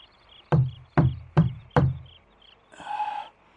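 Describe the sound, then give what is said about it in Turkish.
Four firm knocks on a wooden door, evenly spaced, followed by a brief muffled voice-like sound answering from behind it. “Yine kapıyı kakayın vereyim.”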